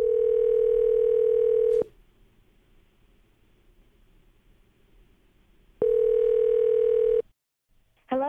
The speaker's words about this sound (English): Hold on. Let me start dialing her number and be real quiet. We will see if we can get her on the phone here and figure out what's going on.